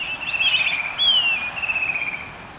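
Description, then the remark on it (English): A shining cuckoo calls with high, thin whistled notes that slide upward and downward in a steady run, fairly loud, heard alone with no voices. “The migratory path of the shining cuckoo may have also helped guide ancient navigators.”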